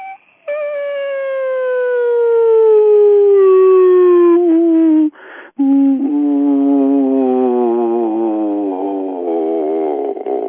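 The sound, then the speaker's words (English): A loud, buzzy test tone sweeps slowly downward in pitch through the audible frequencies toward about 20 hertz for about five seconds, cuts out briefly, then returns as a lower tone wobbling with rapid vibrato until the end. “And we'll go sweep down through all the frequencies to the lowest, which is around 20 hertz.”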